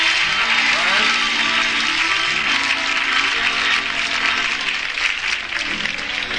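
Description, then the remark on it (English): Sustained audience applause for a songwriter, a dense, steady wash of many hands clapping at full volume for several seconds, with faint voices and cheers mixed in beneath it. “Ladies, a big round of applause for ….”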